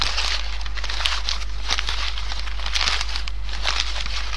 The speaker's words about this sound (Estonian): Uudishimulik siil, kes sahistas puude all lehtedega.